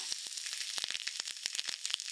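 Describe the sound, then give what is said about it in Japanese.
Dense fizzing with rapid, irregular crackles and pops from carbonated lotion being applied, a steady sizzling hiss throughout with no voices. “あ、パチパチすごいな。”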